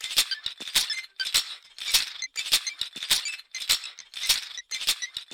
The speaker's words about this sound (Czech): Slyším ji, pije vodu po malých doušcích, poliká, pokládá sklenici na stůl, slyším, jak sklenice cvakla o překliškovou desku.